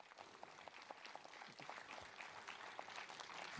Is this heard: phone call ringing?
no